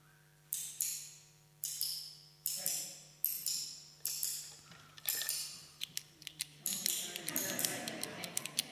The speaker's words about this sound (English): It could have been a computer mouse, couldn't it, clicking? But it is actually a pen. And I think when I actually mime it, it does sound a lot better. So it's a pen clicking.